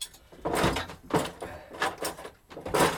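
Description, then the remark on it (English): A kitchen drawer with a potato masher inside is shoved and jiggled repeatedly, producing five or six clattering thumps and scrapes in an uneven rhythm as it refuses to close fully. “Hang on a minute, can't get the drawer shut.”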